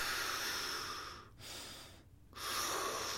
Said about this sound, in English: You're going to start with your belly out. Breathe in as you're pushing your belly out. And you're going to, as you're breathing out, you're going to feel your chest expand. And then you're just going to alternate breathing.